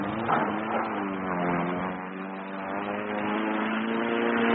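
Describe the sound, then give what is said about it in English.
A model aeroplane engine buzzes steadily and continuously, its high droning whine holding a fairly even pitch and loudness throughout, with no talking. It belongs to a neighbour, Mr. Reed, in flat 12 of a tower block. “Very sad, agoraphobic with a model aeroplane.”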